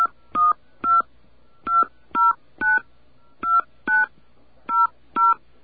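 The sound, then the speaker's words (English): Ten touch-tone beeps dial a 10-digit phone number into an automated phone message system after its voice prompt, in uneven bursts, each a short, clear two-pitch tone with brief silences between, and a slight pause between groups of digits. Nobody speaks. “Okay, let's enter our phone number.”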